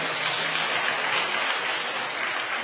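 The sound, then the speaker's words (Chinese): An audience at a Christian gathering applauding to thank a woman for her testimony, a dense, even wash of many hands clapping together at a constant loudness throughout, with no voices over it. “我们再次鼓掌，谢谢这位姐妹的见证。”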